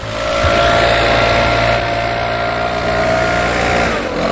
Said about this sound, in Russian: Здесь со стороны котлована «Белые пески» трудится бригада моторизированных дворников спецавтотранса. Метла ушла в прошлое, на смену ей пришла воздуходувка, с которой ловко управляется специалист технической службы